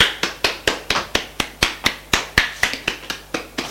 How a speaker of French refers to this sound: Marc se montre en faisant le mannequin. Tous le regardent et applaudissent.